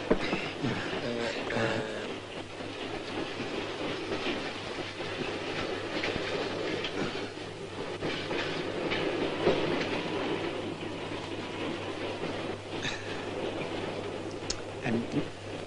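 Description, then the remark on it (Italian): A train rolls steadily along the rails with a continuous rumble and faint rhythmic clacking, with a few brief metallic squeaks near the end. “Il treno ha rallentato e è sceso.”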